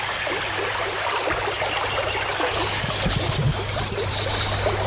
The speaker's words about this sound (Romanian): Pipi curge în pantofiori.